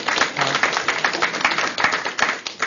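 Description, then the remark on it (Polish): Steady applause from an audience for editor Wojciech Reszczyński of Radio Wawa, a dense crackle of many hands clapping at once, moderately loud, continuing without a break and with no voices over it. “Otóż tak, brawa dla pana redaktora.”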